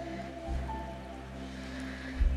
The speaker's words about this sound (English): And imagine the Spirit hovering over the face of the waters like a bird with outstretched wings, spanning the dark waters. Hear the sound of the water around you.